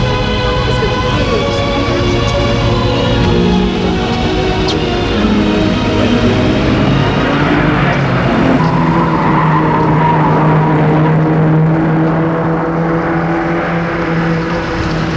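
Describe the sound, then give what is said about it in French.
A car engine roars loudly and continuously, its pitch rising and shifting as the vehicle pulls off, with a hint of tire squeal and no voices. “Et il entre dans sa voiture.”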